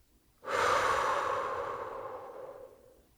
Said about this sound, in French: Puis une troisième fois. On inspire par le nez en gonflant notre ventre. L'air rentre dans ton ventre et ressort par ta bouche.